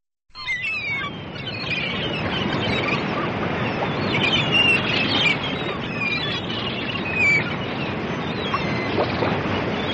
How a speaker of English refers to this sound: Other kinds of visitors come to Cape May in the fall. Tens of thousands of birds stop in the Cape May area on their flight south for the winter. The Cape is a great feeding and resting place for the birds.